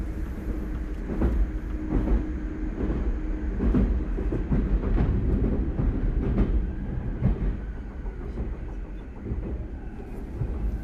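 A train with few passengers, among them a few film festival-goers, rolls steadily along the rails in the morning with a continuous low rumble, punctuated by repeated rhythmic clacks and metallic knocks from the wheels over track joints, with no voices.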